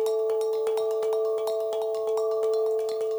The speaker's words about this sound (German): Und das sind so Thai-Gongs, das ist so auf dem Boden, so halbmondmäßig, die sind nicht wahnsinnig groß, die sind so vielleicht, die tiefsten sind vielleicht 25 Zentimeter Durchmesser und die kleinsten sind irgendwie 12 vielleicht.